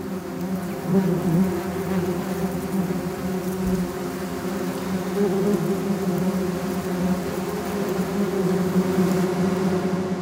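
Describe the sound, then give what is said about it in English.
A wasp buzzes steadily for about ten seconds, a dense droning hum with a low, layered tone and slight wavering in pitch, with no voices; a short composed soundscape of a wasp. “Let's have a wasp sting.”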